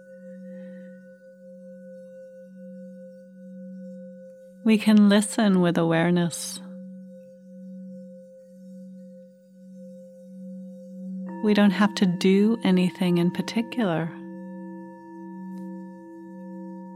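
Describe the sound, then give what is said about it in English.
Mindfulness bells ring with a steady, sustained hum of overlapping pure tones that linger through the whole clip, a fresh set of tones joining partway. A calm voice speaks twice over them. “So as you hear the bells and the sounds, relax, listen.”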